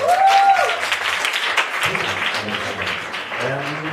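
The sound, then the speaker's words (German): An audience applauds steadily for a few seconds, welcoming the first poet of a poetry event, a dense wash of clapping with a couple of brief voices or whoops rising over it. “Bitte einen großen Applaus für unseren ersten Poeten.”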